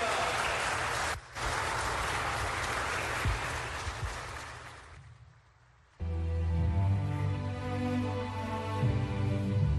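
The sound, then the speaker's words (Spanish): A crowd breaks into loud, dense applause for the Virgin Mary that carries on for about five seconds, with one brief dip, then fades out before a strong voiced sound, talk or music, starts abruptly. “Pues le damos un fuerte aplauso a la Virgen.”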